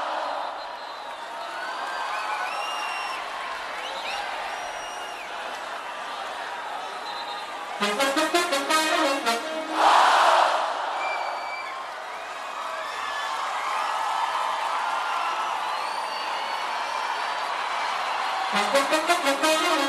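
A show audience murmurs and cheers throughout, with bursts of rhythmic clapping swelling up around the middle and again near the end, lively.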